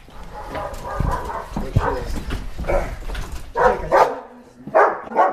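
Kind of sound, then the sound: animal, dogs barking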